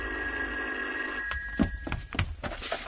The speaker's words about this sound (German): Und eine Woche später, da klingelt das Telefon.